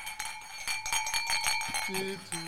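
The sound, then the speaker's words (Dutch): Drinking glasses clink repeatedly as they are picked up, a quick series of bright, ringing taps with lingering high tones, and a brief voice sound near the end. “Ik moet even glazen pakken.”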